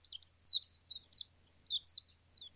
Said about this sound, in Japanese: 小鳥は一日その木の枝で歌を歌い、木は一日中小鳥の歌を聴いていました。